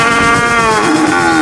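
A single cow moo, loud, held steadily for over a second with a rich, droning tone that sags slightly in pitch toward the end. No voices.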